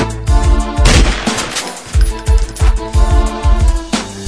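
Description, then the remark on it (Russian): Gunshots crack out in a rapid series, roughly two per second, each a sharp, loud bang set against a steady musical backdrop with no voices. “а эти выстрелы все здесь летают, стреляют, зачем, почему?”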